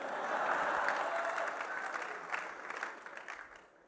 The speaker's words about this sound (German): Wenn ihr zu viel klatscht, geht mir das von meiner Zeit weg. Gell?